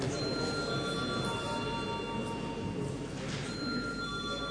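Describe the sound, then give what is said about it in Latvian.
A parliamentary voting bell rings continuously and loudly for several seconds in the Latvian Saeima, calling deputies to vote on a change to the agenda, a steady buzzing electric tone with no pauses and no one talking. “Lūdzu zvanu.”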